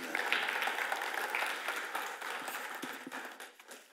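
A crowd applauds a pastor after his sermon, a steady dense wash of many hands clapping that holds strong and then gradually thins and softens toward the end, with no one speaking.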